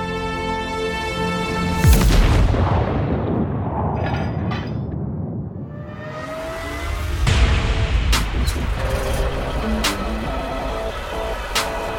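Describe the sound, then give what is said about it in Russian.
Russian artillery fire and shell explosions hitting German positions on the Eastern Front in World War II: a heavy boom rolls into a long rumble, then another blast is followed by several sharp cracks in quick succession over continuous low roar. “Артиллерия у русских знатная, отлично работает. Что не выстрел, прямое попадание в наши позиции”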